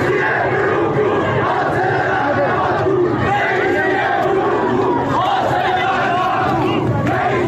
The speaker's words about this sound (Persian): در دسپول، ایزه و اهواز در شبهای گذشته معترضان اینچنین علیه مقام های جمهوری اسلامی شعار دادند. اینجا در شهر کرد شعارها علیه ابراهیم رئیسی بود، رئیس جمهوری که هنوز 1 سال از آغاز به کارش نگذشته.